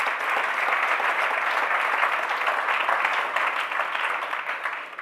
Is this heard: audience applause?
yes